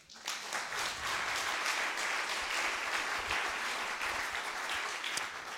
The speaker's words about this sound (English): And we should be applauding that, really applauding that. Will you clap that?